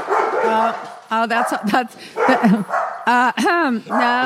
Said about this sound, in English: That's the dogs barking.